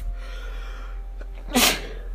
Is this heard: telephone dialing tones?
no